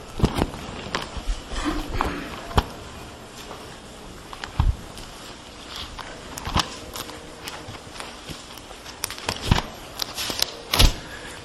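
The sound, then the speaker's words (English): Many Bible pages being turned at once as people turn to Jeremiah chapter 8, verse 20: a scattered, irregular patter of crisp papery rustles and flicks, some sharper snaps standing out, with no one speaking. “It sounds good to hear the pages turned even though there's a PowerPoint.”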